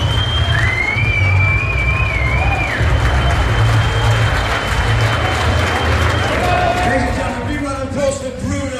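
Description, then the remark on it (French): A loud, dense crowd roar of cheering and applause for the winner, steady throughout, with whistles rising and falling over the din and a deep rumble underneath. “La foule est en train d'acclamer le gagnant.”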